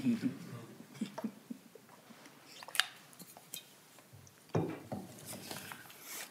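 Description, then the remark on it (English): Someone takes a drink of water: soft handling rustles and faint sips, then a sharp glassy clink around the middle and a thump as the glass is set down near the end. “I'm so sorry, I have to take a drink of water.”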